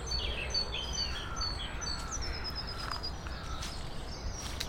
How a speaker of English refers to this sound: There's lots of bird activity. Lots of great tits around this morning and lots of blackbirds in pairs foraging for food.